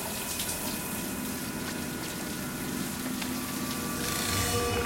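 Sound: shower running water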